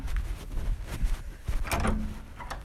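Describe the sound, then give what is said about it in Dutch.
A door is opened, with a few sharp clicks and knocks from the latch and handle, then a brief scraping rub as it swings, over low background rumble. “Ik zal de deur open doen.”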